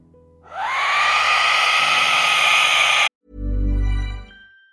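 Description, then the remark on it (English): An Aztec death whistle lets out a piercing, harsh, scream-like shriek that swells quickly and holds loudly for a few seconds before cutting off abruptly, followed by a brief low, booming rumble. “Okay, let's have the Aztec death whistle pause.”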